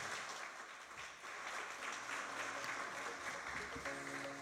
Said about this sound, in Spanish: 30 años juntos haciendo historia, definitivamente, señoras y señores. Yo quiero pedirles, por favor, un fuerte aplauso por esos 30 años.